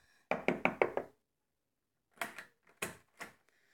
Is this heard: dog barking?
no